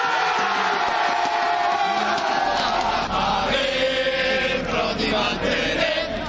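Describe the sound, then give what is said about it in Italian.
A large crowd of political party supporters in Italy roars and cheers continuously as a Senate vote result is announced, a dense wall of voices with shouts and whoops rising out of it, loud and sustained without pause. “Alle 20:36 esplode l'entusiasmo.”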